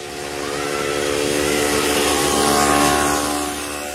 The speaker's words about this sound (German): Ein Mofa. Wie ein Fingernagel kratzt es über die Tafel unserer friedliebenden Seele.